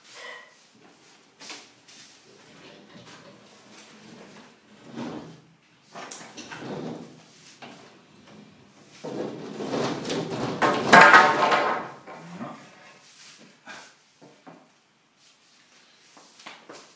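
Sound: door being closed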